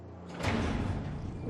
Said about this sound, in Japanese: 扉が開き光が差し込む。